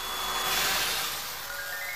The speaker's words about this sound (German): Ich habe eine Idee. Ich bringe euch mit meinem fliegenden Staubsauger zurück.